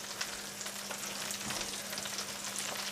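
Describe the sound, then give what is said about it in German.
Butter sizzles steadily in a hot frying pan holding the pan residues from frying a meat substitute, a dense hiss of tiny crackles and pops that holds at an even loudness throughout, with a faint low hum beneath and no voices. “Da tue ich jetzt Butter rein.”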